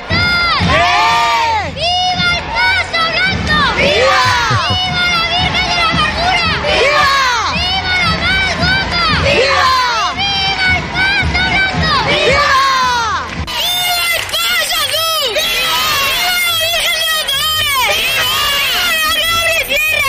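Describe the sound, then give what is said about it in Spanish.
A dense crowd at a Holy Week (Semana Santa) procession in Lorca, Spain, shouts and cheers loudly and continuously, many overlapping voices rising and falling in excited, high-pitched cries, with no single speaker standing out. “La rivalidad en bueno, gritos, pues ese, ¿no, Juanjo?”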